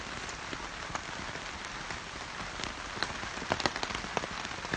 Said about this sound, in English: And here are the raindrops stealing the show. Speaking as loudly as they can. Listen, listen. How can you miss it? So it is pretty wonderful to sit in this snug tent. It keeps us warm and dry.